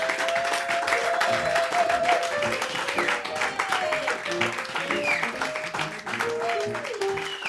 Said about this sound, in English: Y'all, please get together. Give my babies a great big round of applause because they're going to come and sing for you.